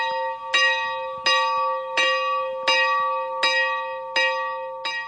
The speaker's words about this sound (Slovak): František Walser odlial v roku 1910 zvon, ktorý sa dodnes nachádza v kaplnke v Hornej Bzovej, a pán farár nám zazvoní.